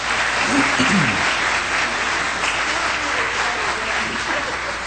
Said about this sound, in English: And the bell choir was, as far as I know, it's the first time they've operated outside the church, that is, outside this structure, and they were well received. So I think they deserve a hand of applause. Absolutely.